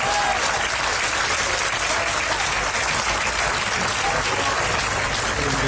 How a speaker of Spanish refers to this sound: Bien fuerte los aplausos entonces, vamos. Ahí está, ahí me gusta, vamos.